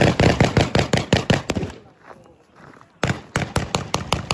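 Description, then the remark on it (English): Machine gun fire from a watchtower, then more than 20 shots from a security guard at a Gaza Humanitarian Foundation aid site, fired at a departing crowd of Palestinians and recorded on mobile phone: rapid bursts of sharp, loud cracks, a pause of about a second, then another fast, evenly spaced volley. “First machine gun fire from a watchtower, then more than 20 shots from a nearby security guard, clearly audible in the mobile phone footage he shared.”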